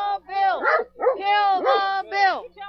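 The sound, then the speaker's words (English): A dog outside a presidential pep rally in Ohio barks unhappily, letting out a quick series of four or five drawn-out, whiny yowls, fairly loud, with a faint steady hum underneath. “And in fact, outside the president's latest pep rally in Ohio, there was clear evidence that even dogs were unhappy.”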